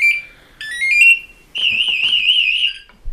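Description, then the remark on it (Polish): A firefighter's motionless-alarm sensor, which starts sounding when the wearer and the sensor stop moving so others can hear where they are, gives a shrill electronic alarm, first in short rising tones, then a steady warbling wail that grows louder, ending with a brief thump. “Zacznie piszczeć wtedy, kiedy nie będziemy się ruszać, ani nie będziemy ruszać tym czujnikiem.”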